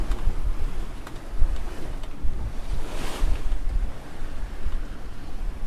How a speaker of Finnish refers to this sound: 7-8 metriä on tuulta. Se on oikein hyvä tuuli, kryssiä, luovia vastatuuleen. Ja tuosta kääntömerkiltä, kun käännetään kurssi hiukan enemmän etelään, niin me seilataan kohti horisonttia ja meri kimmeltää.